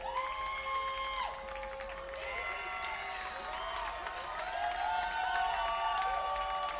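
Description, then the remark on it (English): A large baseball stadium crowd roars steadily as the home team Shorebirds bat in the bottom of the ninth with two outs and the tying run on first, with a dense wash of cheering and scattered shouts and whistles that swells slightly toward the end, heard from within the stands. “And this crowd trying to push them over the edge.”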